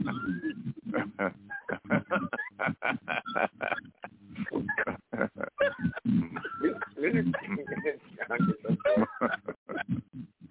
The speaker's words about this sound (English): Well, that dog sounds like he's in the distress. What's going on? Oh, he's only in distress.